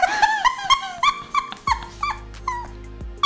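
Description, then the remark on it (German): A loud growling stomach, with a run of squeaky, whine-like gurgles followed by a deep, sustained rumble, with no talking. “Ich kann nicht glauben, dass das Mikrofon ausschlägt, weil mein Bauch knurrt.”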